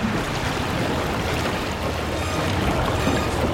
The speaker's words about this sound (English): At the junction point, Elena looks fearfully down the vent and sees water at the bottom. More water starts to flood into the access vent, soaking Dylan, who looks anxiously back at the rising water.